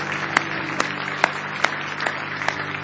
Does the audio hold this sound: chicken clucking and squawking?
no